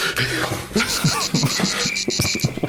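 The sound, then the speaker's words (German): Cicadas chirp in a dense, continuous high-pitched buzz that pulses slightly, filling the whole recording at a fairly loud level, with some lower rustling and clicking sounds underneath. “Niemals mehr kann ich nach Frankreich in den Urlaub fahren, ohne an onanierende Zikaden zu denken.”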